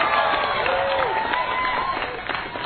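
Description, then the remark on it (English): A crowd claps and cheers steadily in a round of applause thanking the event's organizer, a dense wash of clapping with whoops and a few rising shouts riding on top, sustained at an even loudness. “So let's give her a big round of applause.”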